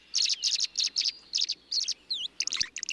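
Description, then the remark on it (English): Swallow calls: quick, high twittering chirps in rapid bursts of a few notes each, repeating steadily, with no voices or other sounds around them. “Gliding low across a pond, a swallow tilts its wings upward, lowers its head to the water's surface, and skims a beakful of water on the wing.”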